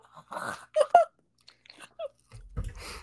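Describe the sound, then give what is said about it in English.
Crisp crunching of sour cream and onion potato chips being bitten and chewed, a few sharp crackly bursts followed by quieter irregular chewing, ending in a louder rustling crunch. “To me, I don't mind sour cream and onion. I'm probably never going to pick it.”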